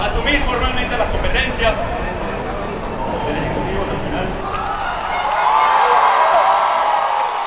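A dense roar from a crowd of hundreds of thousands on the streets of Caracas, Venezuela, as opposition leader Juan Guaido takes an oath of office. Overlapping shouts and cheers form a continuous wash of noise that swells louder toward the end.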